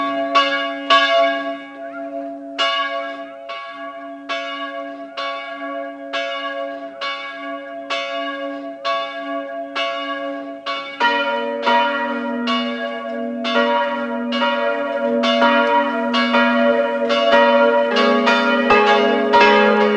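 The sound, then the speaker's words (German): The bells of the parish church of Goldeck, Land Salzburg, ring at 12 noon, loud and resonant, one bell striking in a steady rhythm before a second, lower bell joins midway, their overlapping peals growing fuller and denser. No voices. “Es läuten die Glocken der Pfarrkirche Goldeck, Land Salzburg.”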